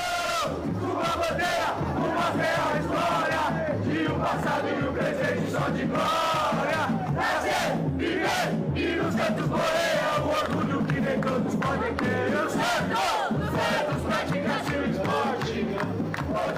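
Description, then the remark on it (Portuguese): A large crowd of Santos football supporters in Guarulhos chants and cheers loudly and continuously in support of the players, many voices singing together in a steady rhythmic roar that never lets up across the whole stretch. “Por isso, a torcida decidiu apoiar, foi para Guarulhos, apoiou os jogadores que estão indo para essa conquista de vaga, quem sabe.”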